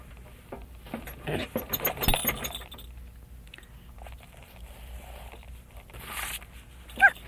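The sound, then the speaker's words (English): Rustling and crunchy handling noises early on, then a quiet stretch ending in one short, sharp squeak from a squeaky toy dog. “There's a dog. It does squeak.”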